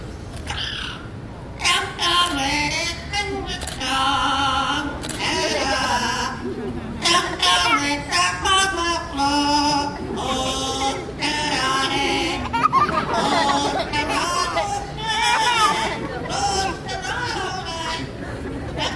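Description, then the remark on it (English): A pet bird imitates human speech and song, performing the song Canton Races, one of seven songs it knows, producing a steady run of warbling, voice-like phrases with wavering pitch and bleating inflections, fairly loud and continuous for the whole stretch. “So his mimicry definitely sounds a lot more like human speech.”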